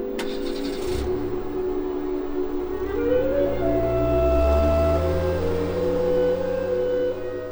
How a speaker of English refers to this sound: He heard the inspector's car start up and drive off.